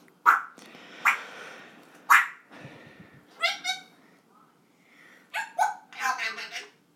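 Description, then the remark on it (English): A female dog gives a string of short, sharp barks, roughly six or seven bright, high-pitched yips in irregular bursts separated by brief pauses, fairly loud against a quiet background. “There we go, she's doing a new voice. Don't bark like Belle.”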